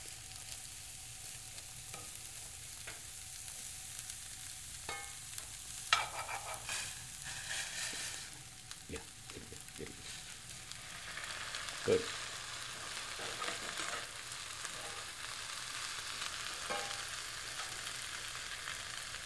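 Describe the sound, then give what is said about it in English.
Steady, crackling sizzle of thinly chopped cabbage with carrots frying in a pot, with scattered sharper pops and a few clinks or scrapes of stirring. It runs continuously at a moderate level with no talking. “Once the cabbage begins to cook, then it's time to add the powdered spices.”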